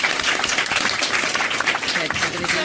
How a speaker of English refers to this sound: Give everyone a round of applause. Yay.